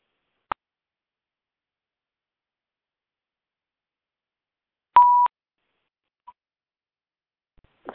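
A single short electronic beep, like a phone keypad tone, sounds after a sharp click as a phone line is unmuted for questions after a class, with a faint tick following in otherwise near silence. No one speaks.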